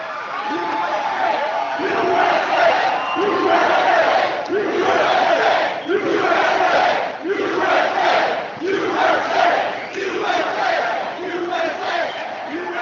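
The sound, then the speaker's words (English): A large crowd roars and cheers loudly the whole time, the noise surging in a steady rhythm roughly once a second, as if chanting together. “Wow, what a nice crowd this is.”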